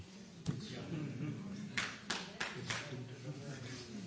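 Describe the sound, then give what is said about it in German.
A single person claps a handful of times, sharp separate slaps spaced unevenly, while a man keeps talking over them. “Schade, nur einer hat geklatscht.”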